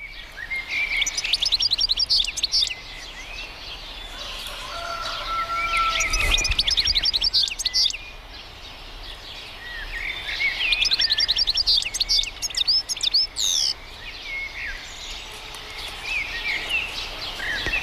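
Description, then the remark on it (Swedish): A goldfinch, recorded in Italy, sings a rapid, tinkling twitter almost without pause, while an Italian rooster crows and a blackbird sings faintly in the background. No one speaks. “Italiensk tupp som gal där i bakgrunden och koltrast som gal.”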